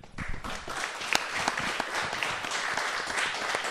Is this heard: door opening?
no